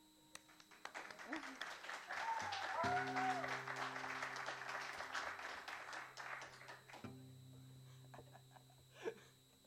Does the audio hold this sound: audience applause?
yes